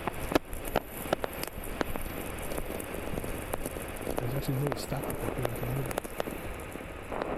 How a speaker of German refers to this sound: Es knistert, es trommelt, fast wie Regentropfen auf dem Blechdach,